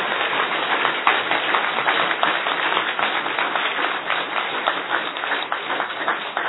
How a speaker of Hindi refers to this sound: अच्छा ये टोली की ताली है कि बोली की ताली है? एक टोली की एक बोली की, दोनों मिल गए है ना।